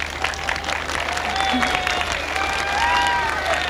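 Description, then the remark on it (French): Thousands of people on a beach applaud while awaiting a singer, thousands of hands clapping in a dense, steady roar that fills the whole clip, with a few faint high whistles and cries rising over it. “Il y a vraiment des milliers et des milliers de personnes et j'aimerais bien que vous les entendiez maintenant applaudir.”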